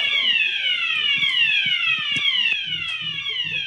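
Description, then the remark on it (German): A fire alarm blares loudly and continuously, a shrill harmonic tone sliding slowly downward in pitch throughout, with faint, irregular low thumps beneath it. “Die Linke spricht über Produktivität und der Feueralarm sabotiert das Ganze.”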